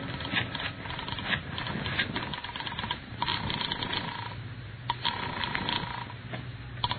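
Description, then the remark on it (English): A telephone receiver is grabbed up with a clatter in a house, followed by a run of quick mechanical clicks from dialing and a faint steady tone, fairly loud, with no one speaking. “I rushed back into the house and grabbed the phone.”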